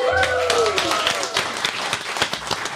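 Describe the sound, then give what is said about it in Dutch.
A live studio audience at a recording of the show Ballet Croquet in Studio Kookhaven bursts into dense, steady applause, many hands clapping at once for a few seconds, with a brief rising whoop or cheer near the start. “Ballet Croquet wordt opgenomen voor een live studio publiek.”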